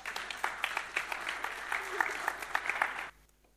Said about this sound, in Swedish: En applåd